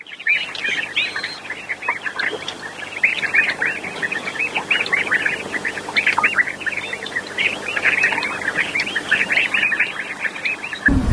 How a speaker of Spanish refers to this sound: A mí me gustan muchísimo los pájaros por la mañana en los árboles. Ajá. El sonido de los pájaros me encanta.